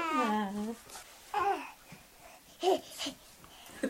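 Toddlers babble and coo in short, high-pitched vocal bursts while playing on a living room floor in Ohio County, West Virginia, one drawn-out wordless call followed by scattered shorter sounds.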